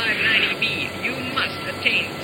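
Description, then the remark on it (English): A steady, loud engine roar from a falling airplane fills the whole stretch with a dense, unbroken hiss-like drone, while muffled, indistinct voices come and go beneath it. “Please, do not leave your seats while the plane is falling.”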